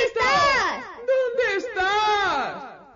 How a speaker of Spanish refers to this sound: Ya lo oyen. La frecuencia del eco es más baja y la voz se hace más ronca.